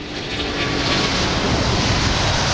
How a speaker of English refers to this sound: I told you you'd hear a plane. That was an A380. Actually, yeah. I just came from one of those, the Airbus 380, the biggest airplane right now.